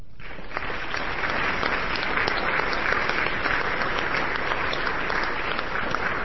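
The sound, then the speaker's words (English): Steady applause from many people in a legislative body, recognizing Representative Lim's accomplishments, a dense continuous patter of clapping that holds at an even, fairly loud level for about six seconds with no voices over it. “I am asking the body now to join me in recognizing Representative Lim's very significant accomplishments with a round of applause.”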